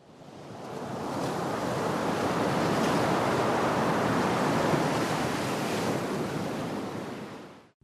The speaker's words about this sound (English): The enormous wave is only a few dozen metres from the lighthouse. Its roar masks the soldiers' shouts.